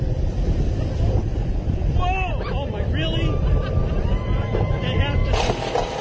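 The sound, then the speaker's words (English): A roller coaster car at Cedar Point rumbles steadily over two small hills before the initial climb, with loud wind roar buffeting throughout while riders let out excited exclamations over the noise. “Those were two little waves before the initial climb up.”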